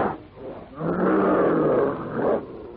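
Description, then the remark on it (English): A huge prehistoric ape lets out one long, loud, raspy roar of challenge that swells and holds for over a second before fading, unaccompanied by any talking. “Swinging forward clumsily but swiftly, the hideous features contorted with black rage, the brute roars out his challenge.”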